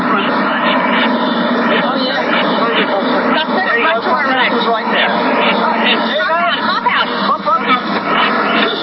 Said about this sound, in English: What appeared to be happening was that we had walked into a situation which was undesirable, because what happened was that the two army helicopters approached us and appeared to be harassing us. I mean, he was so close, it was unbelievable.